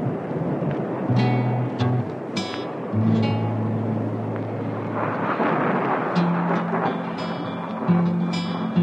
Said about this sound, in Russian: Однажды вечером разыгралась страшная непогода. Гремел гром, сверкала молния, дождь лил, как из ведра. Ужас, что было.